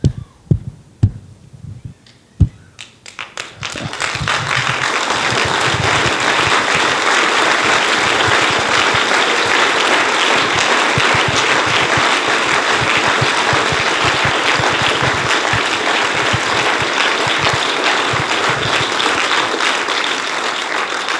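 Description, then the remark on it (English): A few scattered claps and thumps open, then a church audience breaks into loud, sustained applause during a sermon, a dense, steady roar of many hands clapping that continues to the end without talking. “And you stand at the foot of the cross and you clap.”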